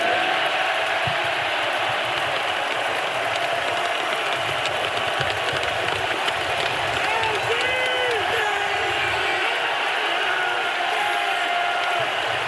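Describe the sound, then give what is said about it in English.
A dense, steady roar of an arena crowd cheering at Fiserv Forum as Giannis Antetokounmpo is given the Finals MVP trophy, many voices blending into a continuous wash, with rising chants of "MVP" swelling through the middle of the din. “Chanting MVP now in Fiserv Forum.”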